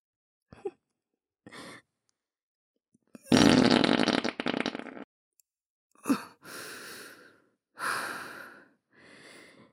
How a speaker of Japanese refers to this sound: とてもいい屁が出ました。やはりおならはブリブリと爆音でぶっこくに限りますね。